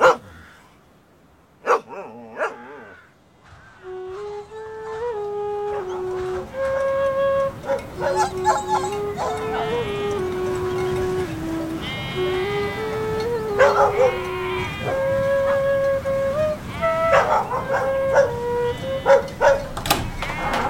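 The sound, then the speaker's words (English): Dogs bark in a few sharp bursts, then break into long, wavering howls that rise and fall over one another, with yips and barks scattered throughout, loud. “And the young dog too!”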